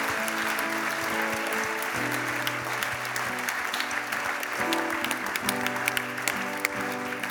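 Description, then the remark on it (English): A crowd claps steadily and enthusiastically for several seconds for people as they come forward, a dense, sustained burst of applause with sharp individual claps standing out, while low musical tones sound underneath. “Est-ce qu'on peut les applaudir bien there fort?”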